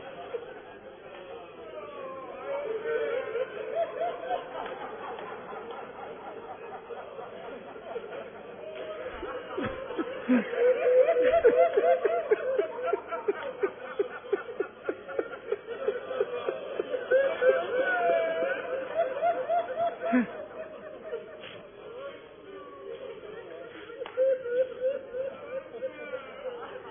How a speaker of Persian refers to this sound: اولا چقدر طول کشید ما الان گریه کردیم، چقدر مایه میخواد.